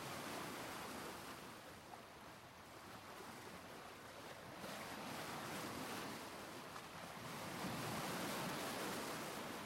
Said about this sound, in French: Donc je m'assois sur la plage avec mes yeux sur le papier et j'écoute les vagues sans les voir. Je cherche la simultanéité entre la pression de ma main avec la graphite sur le papier et les bruits de vagues.